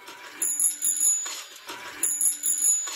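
A small tricycle bell rings in two quick bright bursts, each a rapid jangling trill with a short pause between, fairly loud with no voices.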